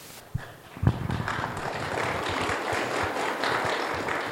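An audience in Montana breaks into applause after a speaker backs reauthorizing expanded Medicaid: a couple of sharp claps at first, then a dense, steady wash of many hands clapping that holds at an even level to the end, with no voices over it.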